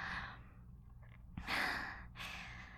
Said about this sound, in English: Your breathing's just as fast as mine.